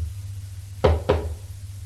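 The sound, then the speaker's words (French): Two firm, evenly spaced knocks on the wooden door of a mother's bedroom, heard over a steady low hum with no one speaking. “il va frapper à la porte de la chambre de sa mère.”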